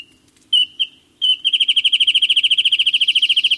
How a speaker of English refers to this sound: One such bird is the wren-tit, whose bouncing, whistled song echoes from nearly every brushy hillside along the California coast.